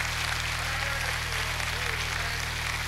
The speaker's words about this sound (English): It's all right to clap on that.